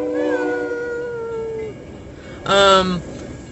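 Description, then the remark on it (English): A train horn from a train going right past sounds a long, steady, reedy tone that fades out, then after a short pause gives a second, louder and brighter blast. “There's no way they can't hear that train. Okay, well now they can because it's going right by us.”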